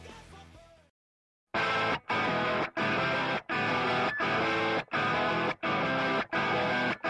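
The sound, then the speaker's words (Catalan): After a brief quiet gap, a loud, distorted guitar-driven punk rock band bursts in with choppy, rhythmic stop-start bursts, full and dense, with no vocals yet; the intro of a song from an album released on 7 October 2003. “Es va anomenar … i contenia, com us he dit, aquest tema que s'anomena ….”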